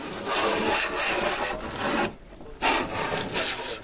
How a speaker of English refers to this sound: Andy slides a hand planer along the edge of a door. Tiny curls of wood fall into a pile as he carefully molds the door to the frame.